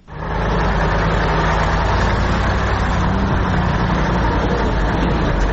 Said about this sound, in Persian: سرک عمومی داخل دره سالنگ مثل همیشه شاهد تردد کاروان‌های موترهای مسافربری و باربری است که ازدحام آن چشمگیر به نظر می‌رسد.